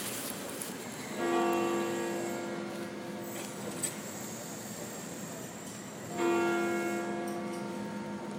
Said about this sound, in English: Sorry for talking over the bell a bit there.